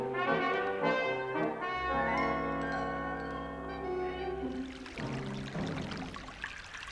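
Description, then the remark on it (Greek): Crystal-clear water pours down steadily onto a person's body during a bath, over a bright, sustained tonal layer. The tone fades into a rougher, splashing wash of water toward the end. No voices are heard. “Το κρυστάλλινο νερό που πέφτει στο κορμί μου είναι μια από τις μεγαλύτερες απολαύσεις που μου έχει προσφέρει ως τώρα η ζούγκλα.”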